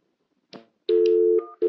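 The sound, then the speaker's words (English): A brief click, then a steady electronic telephone line tone holds for about half a second before stepping to a second tone and cutting off, followed by the tone starting again, after a disconnected call. No voices. “Your call is disconnected. To make any further calls, please disconnect and dial.”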